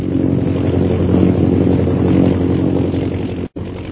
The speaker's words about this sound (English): Meanwhile, in the plane overhead, Captain Carstairs directs his pilot, Lieutenant Rogers, to fly back toward the scene of the bombing.